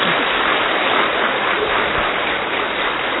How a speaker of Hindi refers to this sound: तो जोर से ताली बजाओ।